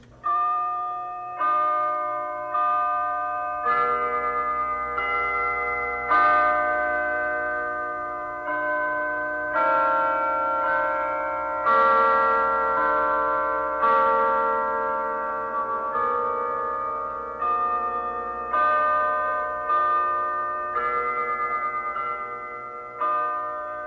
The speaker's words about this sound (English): And the last one this morning is the sound of the church bells that many people love, and there are a lot of them in our city, and they go like this.